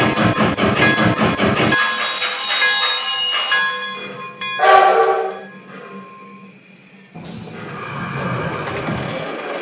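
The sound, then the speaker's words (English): A steam train, train number 21, the Chippewa, chugs rhythmically at first, then slows as a bell rings steadily and a loud hiss of steam bursts out before the rumbling resumes. “Train number 21, the Chippewa.”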